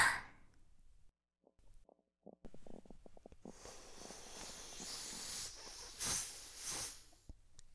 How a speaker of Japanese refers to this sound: あ、すかしっぺ出ちゃった。ごめんなさい、すっごく臭いでしょ。